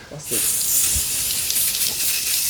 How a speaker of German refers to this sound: Da oben ist gar nicht mehr so viel Haar, um darauf zu sprühen. Ja, da ist nach der Aktion ist da gar kein Haar mehr, vor allen Dingen, das ist das Problem.